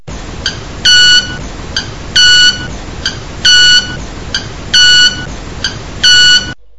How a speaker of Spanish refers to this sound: Bien, lo que acabamos de escuchar son sonidos producidos por las alas. En el primer caso, en el saltarín relámpago, es un ave pequeña de la selva del Ecuador que el sonido lo provoca frotando las plumas de las alas unas con otras